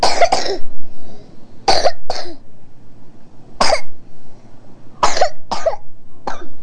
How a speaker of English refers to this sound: Oh, you're coughing.